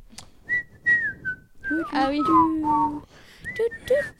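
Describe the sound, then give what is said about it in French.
Someone wearing dental braces whistles a short, halting melody, with breathy, wavering notes that break off and restart, as if struggling to hold the tune. “J'arrive plus à siffler depuis que j'ai mes bagues.”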